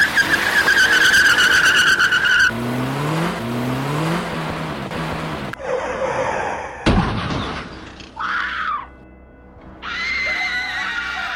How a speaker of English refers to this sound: She just drove into the crowd! We have multiple casualties!